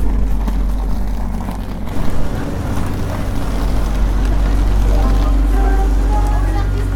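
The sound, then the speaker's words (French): A TGV high-speed train rumbles heavily at a station platform, its deep, steady engine roar filling the space, with faint high-pitched tones whining in over the final seconds and indistinct voices in the background. “Enfin le TGV.”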